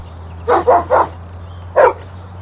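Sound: dog barking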